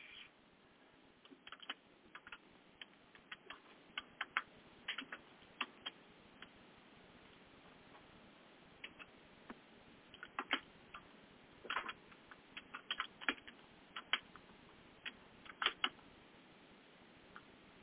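Irregular bursts of sharp clicks from someone typing on a computer keyboard, coming in quick clusters with short pauses over a quiet background, and no one speaking.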